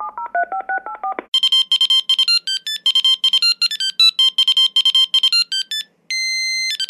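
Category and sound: signal or alarm, mobile phone dialing tones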